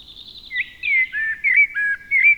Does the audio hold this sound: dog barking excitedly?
no